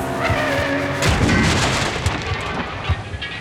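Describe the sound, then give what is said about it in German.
A loud, chaotic car crash as an old BMW, the third car in the accident, slams from the side into the front of another car: heavy booming impacts and crunching, rattling debris spread over a few seconds, with a sharp hit near the end. No one speaks. “Und dann wird schon der alte BMW, das dritte Auto in diesem Unfall, von der Seite vorne in seinen Wagen krachen.”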